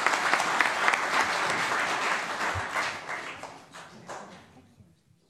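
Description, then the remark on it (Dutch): Loud, dense applause from a crowd for a child who has just promised to work for all children in the municipality, many hands clapping in a steady roar that holds for a few seconds, then thins out and fades to a few scattered claps. “Nou, een daverend applaus.”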